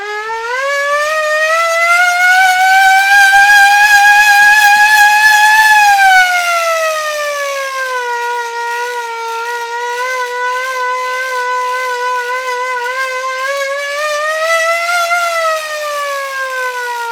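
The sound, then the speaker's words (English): A loud hand-cranked mechanical siren wails on its own, its rich, buzzy tone sliding up, dipping lower midway as the sound turns softer and more muted, then swelling upward again. It is played first with its extra chambers closed, then a trigger is pressed to open them. “The sound of the siren just sort of gets wider and more full, pretty much, less muted.”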